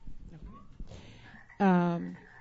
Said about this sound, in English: We have a frog in the house.